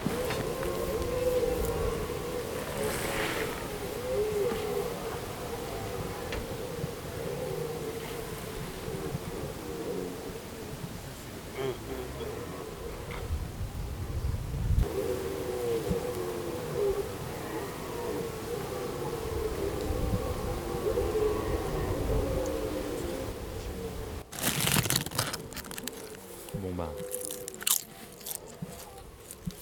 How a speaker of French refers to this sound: Petite note personnelle, ne pas emmener du chips pour écouter le brame du cerf. Parce que t'entends pas quand tu prends les chips.